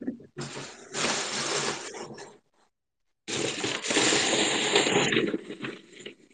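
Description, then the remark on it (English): Loud crinkling and rustling of plastic bags being handled, in two sustained bursts separated by a short silence, with no voices. “Wow, look at all these plastic bags.”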